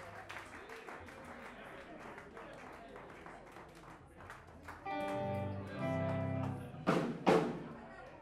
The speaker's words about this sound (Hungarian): Gyertek előre és szurkoljatok a zenekarnak, tapsoljatok, dobáljatok a villákat!